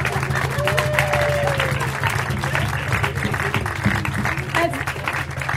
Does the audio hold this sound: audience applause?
yes